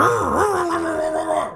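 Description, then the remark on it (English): A man's voice imitates a dog, making one drawn-out, gruff, growly woof that dips in pitch and then holds steady. It is close and fairly loud, with no other sounds. “It's woof, woof, woof, woof. My apologies. Let me try that again.”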